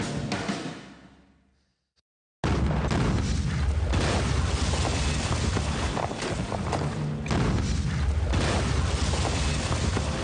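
Heavy booming cannon blasts during the Third of Esfand coup, shaking the doors and walls of the royal palace, roll in, fade to near silence, then return as a sustained, loud, rumbling barrage of low thuds and crackling bursts.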